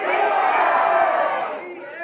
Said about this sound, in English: But anyway, all right, so favorite football food and favorite football team on three. Let's yell it out. One, two, three.